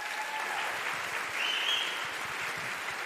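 A steady wash of audience applause for the accompanist, an organist, with many hands clapping together in a dense, even roar that holds at a constant level throughout, with no talking over it.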